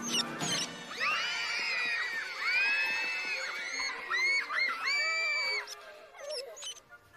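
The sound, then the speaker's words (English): A chorus of high-pitched squeaks from a cage full of mice in Pepito's menagerie, a room of many cages and tanks, many overlapping chirps and whistles rising and falling continuously and busy, with no voices present. “One of them is home to a very large python, Another is full of mice.”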